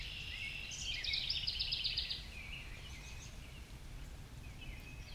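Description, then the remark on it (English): Outdoor ambience in nature with many birds chirping, a brief rapid trill standing out near the start, then softer scattered calls over a steady low rumble of wind through leaves or background noise. “We are out in nature today, joined by countless birds. I hope you can hear them.”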